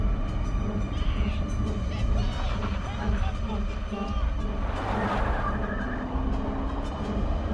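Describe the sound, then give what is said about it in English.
A car engine runs loud as the vehicle reverses, with a steady rumble, tire noise and a brief surge of gritty scraping midway. Jay is reversing Greg's car. “Jay reverses.”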